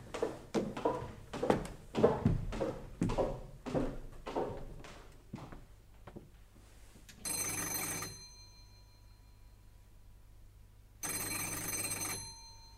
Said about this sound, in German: Auf das Klingeln an der Tür mit dem Namensschild Rotholz öffnet niemand.